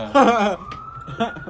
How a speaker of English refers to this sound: Uh-oh. A fire truck. Well, at least somebody's going.